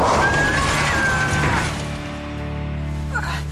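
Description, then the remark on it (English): A car goes off a cliff by a canyon at a viewing area over National Forest land. It crashes in a loud, dense burst of smashing and scraping noise that lasts over a second, then settles into a lower, steady droning hum with a thin tonal whine. “The car went off a cliff.”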